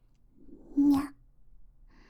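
A single short meow, fairly loud, rising then falling in pitch against a quiet background; it sounds like a voice imitating a cat.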